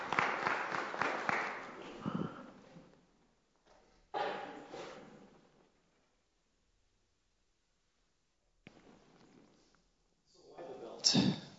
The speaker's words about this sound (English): Yeah, you guys can clap.